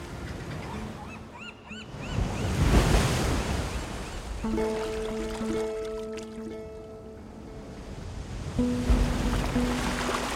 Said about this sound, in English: The sea is calm tonight, off Dover Beach.